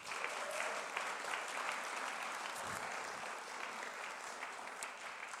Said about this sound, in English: Let's give these people a round of applause now.